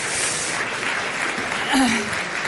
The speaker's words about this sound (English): Give them all applause.